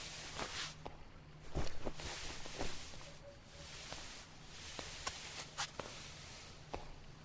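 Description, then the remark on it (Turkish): A tired father climbs a staircase with slow, heavy footsteps, one step at a time, each thud landing about a second apart over a low, steady background hum. No one speaks. “Babası bitkin ve yavaş adımlarla merdivenleri çıkıyor.”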